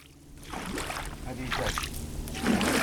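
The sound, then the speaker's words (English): Water sloshes and swishes in repeated surges as a young boy pulls a canoe-like boat through the marshes between the Tigris and Euphrates rivers, near the city of Chubaish north of Basra, Iraq. Steady, with a low background rumble. “Near the city of Chubaish, about a half hour north of Basra, a young boy pulls a canoe-like boat through the marshes between the Tigris and Euphrates rivers.”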